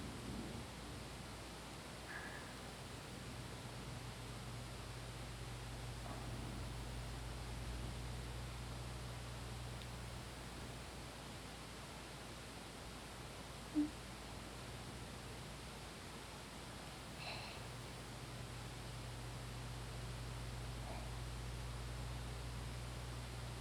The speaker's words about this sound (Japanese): 好きなんですよ、私。雨、川下りのお仕事してる時にはお客さん濡れちゃうし、ご迷惑かけちゃうなって思いますけど、それでもね、私自身は雨に濡れながら船を操るの好きなんです。